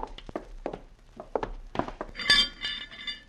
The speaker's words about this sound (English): Hey, careful, Sheriff. That's an old rickety stove. You most knocked it over there.